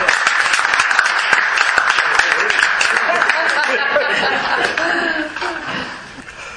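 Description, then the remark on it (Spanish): An audience applauds steadily for several seconds in thanks for a book's author, dense clapping mixed with scattered chuckles and murmured chatter, then the applause thins and fades toward the end. “Así que un aplauso y un agradecimiento.”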